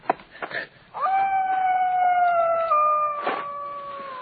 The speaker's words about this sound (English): Maybe it's coyotes. Sounds like a woman screaming. It's not coyotes. It's his ghost.